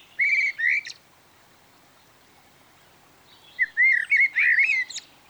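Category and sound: bird, blackbird song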